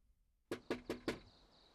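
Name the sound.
knocking on a door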